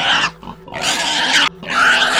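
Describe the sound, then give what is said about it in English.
A large pig in a pen in a barn squeals and grunts loudly in three harsh, strained bursts separated by brief pauses, raw, with no talking. “"Holy shit," I say, barely managing to hear myself as the biggest pig that I'd ever seen starts to squeal and grunt loudly.”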